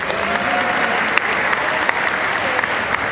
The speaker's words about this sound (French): Donc je vous demande quand même de donner un applaudissement